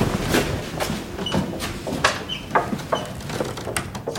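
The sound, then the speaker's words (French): A door is closed in an artist's studio, with a string of sharp knocks and rattling clicks spread over a few seconds against a low background rumble; no one speaks. “Je vais fermer la porte.”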